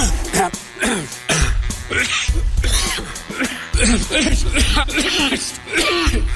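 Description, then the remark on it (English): A person repeatedly clears their throat and coughs in quick succession, loud, with rough voiced sounds running between the bursts. “Not one of those throat clearings or coughs was repeated.”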